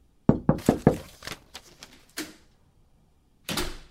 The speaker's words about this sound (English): the purpose of a knock is not only to alert people in the room to your presence, but to also ask permission to enter said room. Waiting for an answer is a part of the whole knocking ritual.